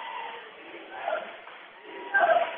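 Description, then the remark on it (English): A dense, continuous roar of a big crowd of Beach fans cheering at a basketball game between Beach and Brentwood, with a mid-pitched swell of voices around one second and a louder surge of shouting near the end. “Big crowd here from Beach, guys. They're behind us making lots of noise.”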